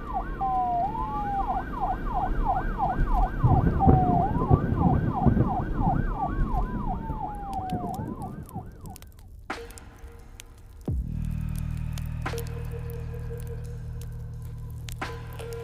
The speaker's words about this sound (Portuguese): E as sirenes da polícia se aproximavam.